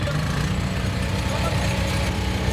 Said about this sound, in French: Alors là, ben, ils sont en train de vider le bateau de l'eau. C'est quoi? C'est une pompe toute simple qui permet de... C'est une pompe qu'on a pour évacuer l'eau des bateaux qui sont en train de couler.